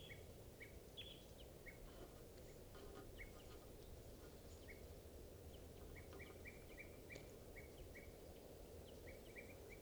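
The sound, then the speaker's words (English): Wild birds call from the trees in short, high chirps, scattered at first and then in quick repeated runs, over a steady wash of rushing background noise. No one speaks. “Recording the wild birds are tooping in the trees.”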